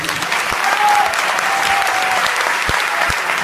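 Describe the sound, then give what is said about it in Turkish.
A crowd applauds steadily, a dense wash of many hands clapping at a strong, even level with a few sharper claps standing out and a faint whistle-like tone early on. “İlk önce bir alkış isterdim ki heyecanımızı atar.”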